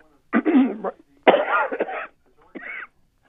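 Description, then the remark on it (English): Three harsh coughing bursts in a row, the middle one longest and most forceful, the last shorter and lighter, with brief silent gaps between them and no talking. “Bit of a cough.”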